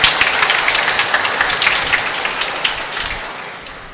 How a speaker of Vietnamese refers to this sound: Hôm nay cha về đây để tạ ơn Chúa với cộng đoàn giáo xứ. Chúng con xin dâng một tràng vỗ tay để chúc mừng cha hôm nay.